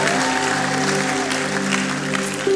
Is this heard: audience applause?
yes